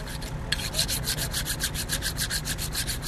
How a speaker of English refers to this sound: is sharpening a small curved knife that he'll use to cut Cabernet grapes by hand until sunrise, or until it starts raining.